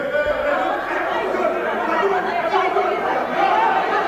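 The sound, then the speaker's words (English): A loud, unbroken clamor of many overlapping voices shouting and arguing at once in the Senegalese parliament during a brawl that followed an act of violence, a dense crowd din that holds steady for the whole stretch with no single speaker standing out. “Hear now some of the resulting clamor.”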